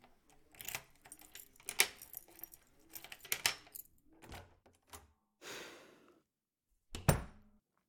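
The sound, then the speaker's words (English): Keys jangle and clink in a series of bright metallic rattles, with a few sharp clacks and a final loud jingle after a brief pause; no one speaks. “Got the keys?”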